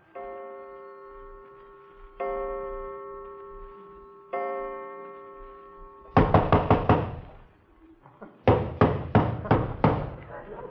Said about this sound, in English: Have you ever been awakened in the middle of the night by some character pounding at the door and hiccuping with a British accent? Well, I have.